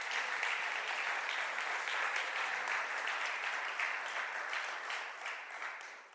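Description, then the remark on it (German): An audience claps steadily, a dense wash of many hands with crisp individual claps popping through, holding at a fairly loud level before tapering off near the end. No one speaks over it. “Klatschen Sie doch führen.”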